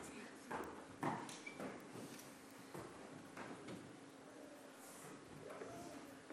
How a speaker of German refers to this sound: Ich höre Schritte. Wer mag das sein?